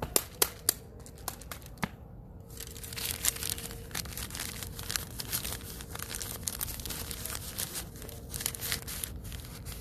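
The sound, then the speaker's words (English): Paper being crinkled and folded, with a few sharp crisp snaps at the start giving way to a continuous rustling crackle. No voices are heard. “I think it's paper.”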